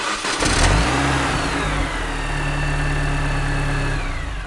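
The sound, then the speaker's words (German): A petrol car engine catches with a brief burst, then revs and holds at a steady, rumbling pitch, loud with no voices. “Das könnte ein Otto-Normalverbraucher sein, also wortwörtlich gemeint.”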